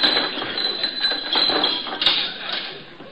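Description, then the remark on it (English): A door is opened with a continuous mechanical rattle and a few metallic clinks, a steady noisy grinding that swells and eases over about three seconds, with no voices. “Just a minute, I'll open the door.”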